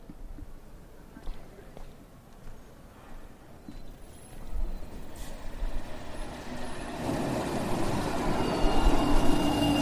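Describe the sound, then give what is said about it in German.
A tram rumbles as it approaches, its low mechanical noise building steadily, with a short hiss of air brakes partway through and faint voices in the background of the street. “Aber um das zu erzählen, werde ich jetzt erstmal hier in eine Straßenbahn und wahrscheinlich noch in einen Bus springen.”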